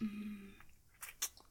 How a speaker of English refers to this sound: Sucking. And slurping.